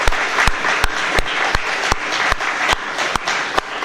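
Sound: applause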